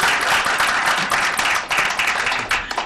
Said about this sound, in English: I saw some people doing this. I feel like we should applaud them at this point.